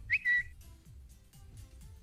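A Twitter notification whistle: two quick, bright chirps, the first sliding upward and the second holding steady. It is followed by a soft, low, rhythmic rumble in the background.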